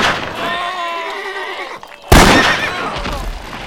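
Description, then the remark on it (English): A single loud, sharp rifle shot cracks out and rings off, following a long, wavering horse whinny in the opening seconds; a man fires a rifle in a swamp. “He brought two rifles, and now he used them.”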